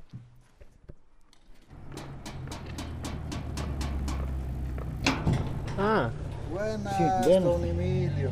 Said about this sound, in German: Dieses Mal öffnet jemand die Tür.